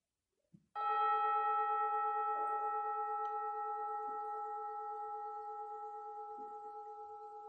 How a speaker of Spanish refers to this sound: Escucha el gong hasta el final.